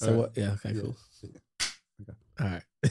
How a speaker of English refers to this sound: Can we start that over? Did we do a clap to start over?